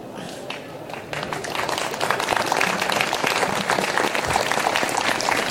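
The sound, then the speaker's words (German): An audience breaks into applause: dense, steady clapping swells after a softer first second and stays fairly loud and even to the end, with faint crowd voices mixed in. “Fällt es euch schwer, da zu klatschen?”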